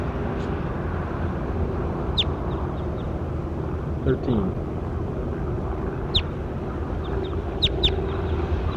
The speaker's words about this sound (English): That was bird 13. That's him again.